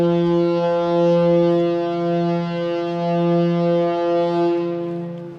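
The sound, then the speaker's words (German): A shipyard horn in Flensburg blares in one long, unbroken blast signalling the lunch break, as it also does for the breakfast break and end of the workday: a deep, steady tone rich in harmonics that holds loud and even for several seconds with no voices over it. “Was ist das für ein Geräusch? Ja, wir haben jetzt Mittagspause. Das hört man auch zur Frühstückspause und zum Feierabend.”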